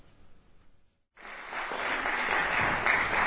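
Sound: concert audience applause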